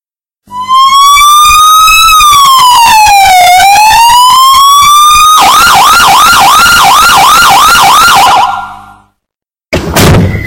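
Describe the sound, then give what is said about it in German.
A loud police car siren wails in long rising and falling sweeps, then switches to a rapid yelping warble, cuts off, and returns briefly. No one speaks. “Schon gut, Sie können beim Streifenwagen bleiben.”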